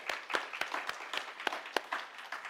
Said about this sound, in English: Now, church, I know we are, maybe we are not used to clapping hands in church, right? But, you know, praise the Lord.